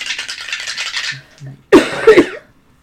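Dice rattle and clatter in two bursts: a long, steady shaking that fades out, a brief pause, then a louder tumbling roll that settles after a few sharp knocks. No one speaks.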